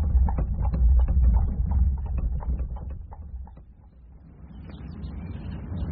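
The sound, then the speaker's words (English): Outdoor ambience in a park in London with a steady low rumble underneath, scattered bird chirps and pigeon-like cooing throughout, and a brief lull midway before the birds pick up again. No one speaks. “A park in London.”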